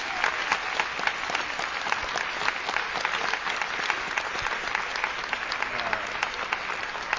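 An audience applauds steadily, a dense, bright wash of many hands clapping at a fairly even level throughout, with no voices standing out above it.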